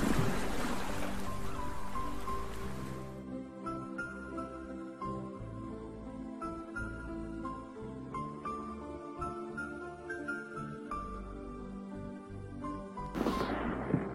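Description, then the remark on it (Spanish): Ocean surf on a beach washes loudly for a few seconds, then drops away beneath a soft, steady tonal bed as the beach is left behind for a path into a coconut grove, with the rush of waves swelling back briefly near the end. No voices. “Te adentras en el cocotero siguiendo un sendero abierto por un viajero entre la pieza y sientes cómo se van desvaneciendo el ruido de las olas y los gritos de las gaviotas a medida que vas dejando atrás la playa.”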